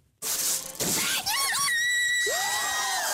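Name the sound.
joyful scream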